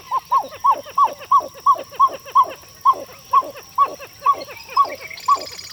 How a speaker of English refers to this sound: The call of this water bird, the pied-billed grebe, is unusual, isn't it?